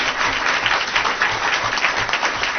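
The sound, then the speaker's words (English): A crowd claps steadily for a woman honored for Holland Crest Middle School's California Distinguished School Award, dense and loud, a continuous wash of many hands with no pauses and no voices rising above it. “Give this woman a round of applause.”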